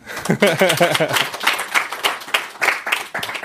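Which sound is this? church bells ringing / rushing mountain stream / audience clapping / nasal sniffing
audience clapping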